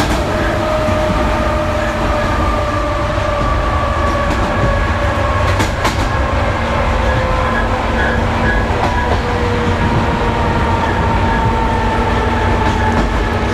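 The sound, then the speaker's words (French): A train rattles steadily along the tracks, loud, with a continuous rumble, clattering wheels and faint metallic squeals drifting over the din. No one speaks. “J'aime les trains qui brinquent-ballent, les bogies qui claquent, les châssis qui grincent, les freins qui couinent.”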